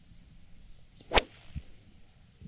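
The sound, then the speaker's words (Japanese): A golf club swishes and strikes a ball with a single sharp, crisp crack, followed by a soft thud, against a quiet outdoor background with a steady high hiss. “ちょっとこれ、フェードボールとか、パンチショット気味とかできんのかな？”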